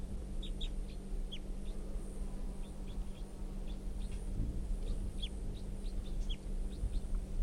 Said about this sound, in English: And 305 song, now pointed back up at the wild bird, who's giving a few calls.